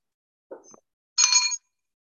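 timekeeper's bell ringing

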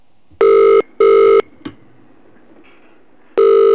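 telephone call ringing tone

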